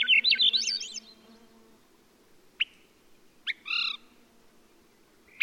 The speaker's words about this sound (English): You could find it all across the northern latitudes, in the Sierra Nevada of California, the Rocky Mountains at upper elevation. Characteristic sound of a beautiful forest. This species of thrush has a very distinctive upward spiral.